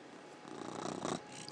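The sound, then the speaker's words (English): A cat named Simba purrs in a steady, soft rumbling drone with a breathy texture, swelling slightly midway before easing off. No one speaks. “He's just purring now.”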